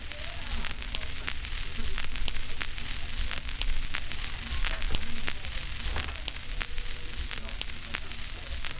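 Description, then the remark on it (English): Steady vinyl record static: a bed of hiss with frequent sharp pops and crackles scattered irregularly throughout, over a low rumble, with no voices. “And right now we're listening to some Record Static.”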